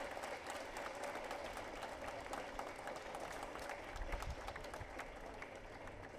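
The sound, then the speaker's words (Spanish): An audience applauds steadily for about six seconds, a dense wash of many hands clapping at once with no pauses, holding an even loudness throughout without any voices standing out. “Un aplauso para ellos y ellas.”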